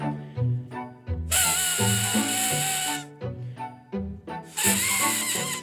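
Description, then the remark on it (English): A paper reed, made from two flaps in a piece of paper brought together at the lips and blown hard, gives loud, buzzy, honking tones that shift in pitch, with two long shrill blasts among shorter squawks, reminiscent of a baby elephant's trumpet. “So what I did to create the sound was make two flaps in my paper. Then I brought them together at my lips and I blew hard.”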